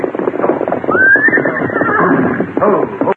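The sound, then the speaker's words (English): Saddled horses are brought over: one horse lets out a loud, rising whinny over a busy clatter of hooves, with more horses stirring; no one speaks. “go get their horses over there and bring them here.”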